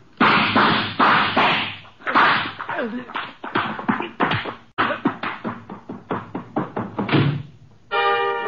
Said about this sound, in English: Archie, you know I dislike the banging of doors.